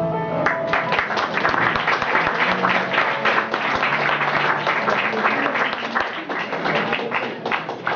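A crowd applauds steadily for the full eight seconds, a dense, even wash of many hands clapping with no break or fade.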